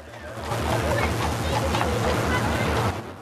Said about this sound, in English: A bus drives past.